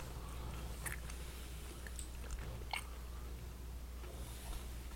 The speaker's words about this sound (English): So they're going to listen to this, our listeners are going to listen to us going, making yummy noises and chewing